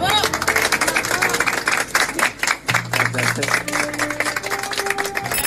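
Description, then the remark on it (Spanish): Passengers on the San Martín train clap steadily, dense overlapping applause lasting several seconds, with a low rumbling hum and some voices underneath, applauding a passenger's sister who has just qualified as an announcer. “Emotivo momento se vivió en el tren San Martín, donde un pasajero pidió un aplauso para su hermana, que se recibió de locutora.”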